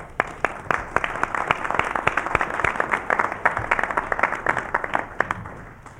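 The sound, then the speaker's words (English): An audience applauds steadily for several seconds to welcome performers of works by Victoria, Schumann and Brahms led by Professor Eduardo Diaz-Munoz, a dense patter of many hands clapping with a few sharper claps standing out, moderately loud throughout. “Welcome, and we hope we'll join together in giving you a welcoming round of applause.”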